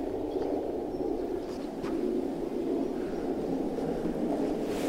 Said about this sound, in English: The sound is from... is actually a sound, literally, that the reeds are making, but it's not a sound you would hear standing there, because I put accelerometers in the reed bed, so you're getting the material vibration of the reeds.